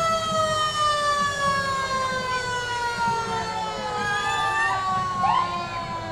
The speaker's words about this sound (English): Classic as in old fire truck. That's what you're hearing from Fire Protection District number 7, the Chelan Fire District.